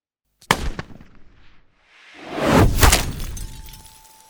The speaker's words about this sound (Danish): Der lyder et smæld og et klir, da et projektil smadrer en af bilruderne og rammer en gisseltager i hovedet.